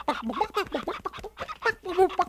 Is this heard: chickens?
yes